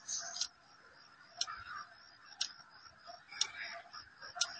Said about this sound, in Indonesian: Baru saja aku akan memejamkan mata dan terlelap, ketukan itu kembali terdengar.